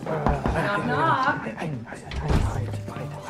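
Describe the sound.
A door bumps open with a couple of dull thunks as someone comes in, while several people talk over it in a busy, murmuring room.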